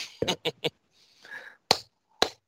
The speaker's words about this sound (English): And until next time, boys, I guess that's two claps and a Ric Flair, and let's go Blue Jays.